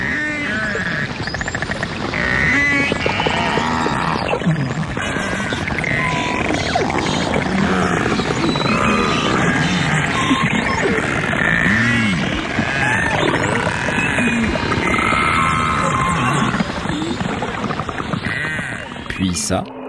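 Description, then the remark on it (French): A continuous stream of whale calls underwater, not song: rising and falling moans, squeals and warbles that overlap densely for the whole stretch, fairly loud against a constant watery hiss. “Car oui, il y a ce joli chant qui nous plonge immédiatement dans les fonds marins. Mais il y a aussi ça.”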